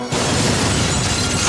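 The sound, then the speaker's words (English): A car explodes with a sudden loud blast, then a dense, roaring wash of noise and rumble fills the rest of the moment, overwhelming, with no voices. “A tape is put into a car stereo, and her mother calls out to her before the car explodes.”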